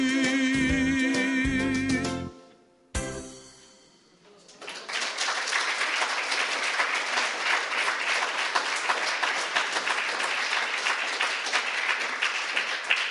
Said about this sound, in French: Voilà, merci pour ces applaudissements.